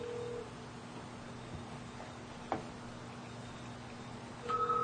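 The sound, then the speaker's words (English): A fax machine picks up a phone call: a steady electronic tone, a faint line hum with a sharp click midway, then higher beeping tones returning at the end. “Yeah, she's giving us a fax number.”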